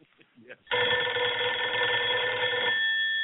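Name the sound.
telephone ringing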